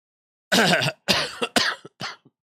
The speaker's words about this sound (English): I forgot to mute this cough. Sorry for those who are sensitive.